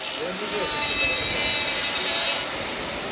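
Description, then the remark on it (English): Busy noise in a workshop of AirLogix, a Kyiv-based drone company that produces high-end military drones, where about 20 people construct parts. Steady sawing and rasping tool sounds, a dense hiss of machinery and faint indistinct voices underneath, continuous. “This is a workshop that produces high-end military drones.”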